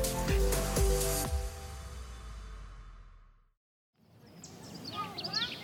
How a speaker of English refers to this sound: Listen to those birds just chatting it up. The Huntington Library in San Marino, California is like heaven by any metric.